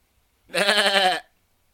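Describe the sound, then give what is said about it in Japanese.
A man's voice imitates a sheep's bleat: one wavering, quivering baa lasting under a second, fairly loud, with silence before and after. “羊年なものでちなんでやってみました。”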